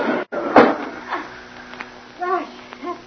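window being opened

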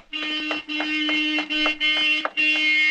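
car horn honking

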